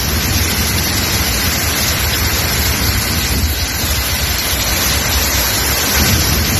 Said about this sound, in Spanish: Por ejemplo, en Castellón nos llegan imágenes impactantes. Allí se ha registrado una intensa tormenta con granizo.